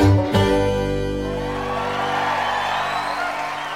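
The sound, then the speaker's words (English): A final sustained chord rings out and fades as a large live audience at the Charleston Music Hall bursts into steady applause and cheering, the clapping spreading across the whole crowd and continuing to the end. “Sounds like a great crowd there at the Charleston Music Hall.”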